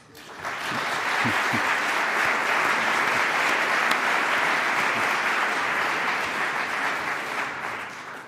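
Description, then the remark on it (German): Sustained applause from an audience, a dense steady clatter of many clapping hands that swells quickly and holds at an even, loud level for several seconds before easing slightly. “Und ich finde, wer so uneigennützig, regelmäßig und bescheiden handelt, der hat unser aller Respekt und Beifall verdient.”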